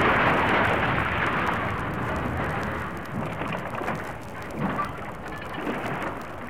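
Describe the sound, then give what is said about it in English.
A building with a water tower on top of it collapses in a loud, sustained roar of rumbling, crashing debris, heaviest at the start and then easing slightly, with a few fresh bursts of clatter near the end. “Right ahead of us, there's a building collapsing.”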